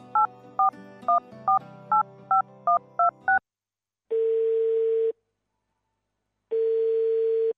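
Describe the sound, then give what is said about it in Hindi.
A rapid run of nine or ten touch-tone dialing beeps over a faint hum, then two long steady ringback tones separated by a pause of silence, as someone phones an uncle. “एक बेर फोन क के बुझती से नै। अच्छा लिया लगबै छी।”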